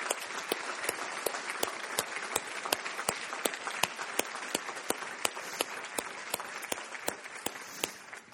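An audience at a church service applauding steadily to honor men and women who serve, such as firefighters: dense overlapping claps forming a continuous wash with a few sharper individual claps standing out, sustained for several seconds at moderate loudness.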